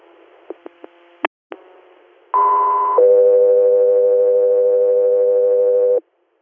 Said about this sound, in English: Guthrie Air, stand by for tones.